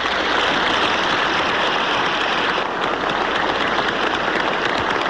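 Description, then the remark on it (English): Sustained, dense applause from a large crowd in the chamber of the House of Representatives, praising Speaker O'Neill as he leaves, a steady wash of clapping with no pauses and no one speaking over it. “O'Neill wiped tears from his eyes as he waited for the applause to subside.”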